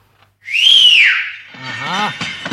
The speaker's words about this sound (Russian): Ну, так я сам свистнуть могу.